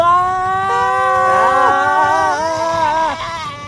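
Several voices scream together, loud, their wavering high pitches sliding up and down and overlapping for a few seconds before trailing off slightly, as their rocket ship house crashes out of the sky.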